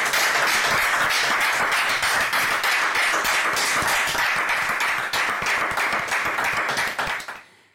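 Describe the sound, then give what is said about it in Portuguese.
Dense, steady applause from an audience welcoming a band about to play live, many hands clapping at once in a loud continuous wash that holds for several seconds before cutting off abruptly. “Forte aplauso”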